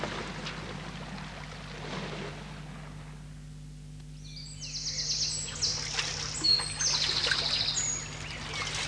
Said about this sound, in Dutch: Het is een riviertje